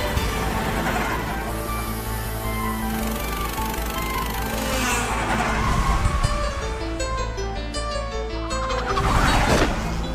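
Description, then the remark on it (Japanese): A loud, steady car engine roars throughout, swelling twice as it accelerates, with one surge near the middle and a stronger rush toward the end, as a car races a lap on a track with the driver barely braking. “この一周あの子ほとんどブレーキかけとらんで。”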